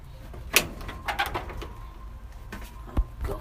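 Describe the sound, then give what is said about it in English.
A caged crow shifts about: a few sharp knocks and rattles at irregular moments, with soft scuffling and faint low bird sounds between them, and no one speaking. “Come on, crow fella, get in.”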